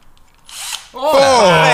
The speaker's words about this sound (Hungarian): Nem tudom, hogy a fúrom ki fog ezt fúrni.